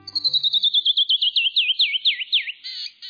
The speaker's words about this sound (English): When a canyon wren sings, the brilliance of its descending notes can stop you right in your tracks.